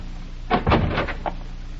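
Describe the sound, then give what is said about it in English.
A wooden shack door is pulled open, making a short burst of rattling, creaking knocks that rise and fade within about a second. There is no talking, just a low steady hum underneath. “If the door's unlocked, flash your light inside the minute I open it.”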